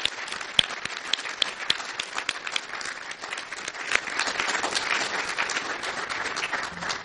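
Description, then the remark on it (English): An audience applauds steadily, many hands clapping in a dense, continuous patter with a few sharper individual claps standing out, holding at an even moderate level throughout without any voices. “Please join me in a special round of applause to recognize their accomplishments and their unparalleled careers.”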